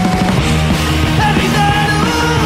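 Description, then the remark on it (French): A short burst of loud, dense heavy metal with distorted guitars and harsh screamed vocals, played at a steady, full volume throughout. “On va en jouer un tout petit extrait parce que vous allez voir, ça crie beaucoup.”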